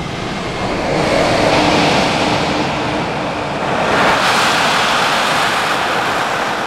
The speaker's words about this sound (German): Koller setzt den Helm auf, hebt kurz die Hand, schiebt den Schubhebel nach vorn. Ganz sachte setzt sich der Jet in Bewegung, rollt aus dem Shelter, dicht gefolgt vom zweiten Jet, gesteuert von Jürgen Schönhöfer.